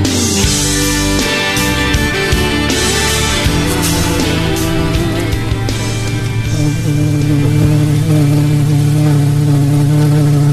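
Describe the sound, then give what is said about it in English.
A loud, steady buzzing drone fills the whole stretch, a dense, layered hum like a swarm of bees or hornets, with its pitch shifting slightly partway through and no talking. “Is that the bees? The hornets? Good Lord. They're getting closer, Todd. I hear them coming.”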